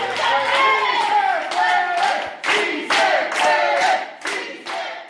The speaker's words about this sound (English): About 100 immigrant activists and supporters from all over the country are shouting, "Yes, we can," in Spanish, at the Civic Center in downtown Silver Spring, Maryland. They gathered here 2 days after Trump's election to discuss next steps.